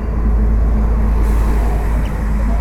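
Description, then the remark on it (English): A steady, loud rumble of vehicle engines fills the scene, a dense low drone of idling and slow-moving traffic with no voices, like cars packed together in a jam. “It's a traffic jam.”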